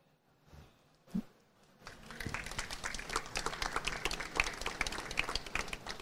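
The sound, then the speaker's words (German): Audience applause rises after a quiet opening with a single soft thump, then many hands clap steadily in a dense, crackling patter that stays fairly loud until the end, with no voices. “Ja, und jetzt sind wir genau an dieser Situation, wenn so etwas gesagt wird, dann nicken alle und klatschen alle und dann gehen alle ihre Wege und machen das weiter, was sie immer machen.”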